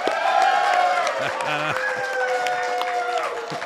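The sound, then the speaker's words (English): The live audience at the 2025 Rural Summit claps and cheers steadily throughout, with sustained whoops and shouting voices rising above dense, continuous applause that sounds a little echoey. “We are actually in front of the 2025 live audience at Rural Summit.”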